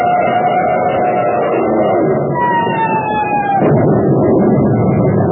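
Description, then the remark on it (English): A dive bomber plane diving out of a cloud bank: a loud, steady engine roar carries a high whining tone that slides gradually downward in pitch, like a plane screaming into a dive, before the drone continues on its own. “Plane's diving out of that cloud bank. Jack, dive bomber.”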